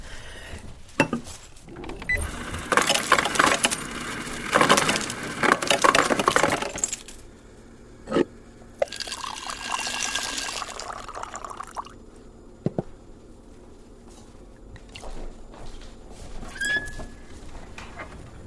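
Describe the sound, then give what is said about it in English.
Ice cubes clatter into a glass, followed by a steady pour of water and a few clinks, with a quieter rattle toward the end. “I put ice in it.”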